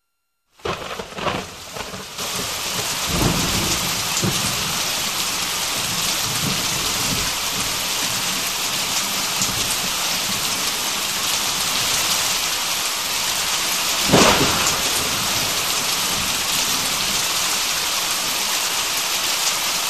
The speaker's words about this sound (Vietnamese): Mưa đổ xuống và kéo dài mãi không ngớt.